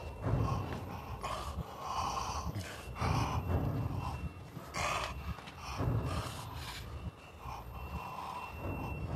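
Heavy, ragged breathing, a series of loud huffing breaths and gasps at an uneven rhythm with brief pauses, no talking.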